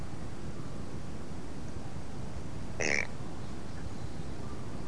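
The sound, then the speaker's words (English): A child's voice makes one short, raspy duck quack, a brief nasal burst over a steady background hiss, with silence on either side. “And how about the duck?”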